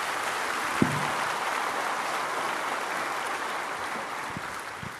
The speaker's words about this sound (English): So listen, yeah, that's worth clapping for.